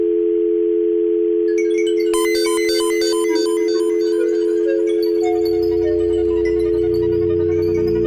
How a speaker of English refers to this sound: I see the dial tone.